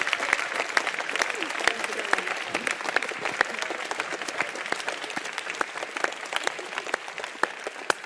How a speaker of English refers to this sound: And finally, a huge thank you to all of you, the attendees. Without you, of course, this would not have been possible, so give a round of applause to yourselves for coming and for all that you contributed.